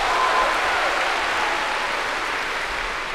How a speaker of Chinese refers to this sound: 谢谢朋友们的掌声。 哎， 如果说您这个掌声再热烈点会更好，谢谢。